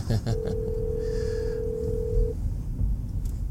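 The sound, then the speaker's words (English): A phone rings during a live on-air show, a call from the speaker's ex-wife, with one long, steady electronic tone at a fixed mid pitch, lasting about two seconds, over a continuous low rumbling background. “It's my ex-wife, and I don't answer my ex-wife's phone when I'm on the air.”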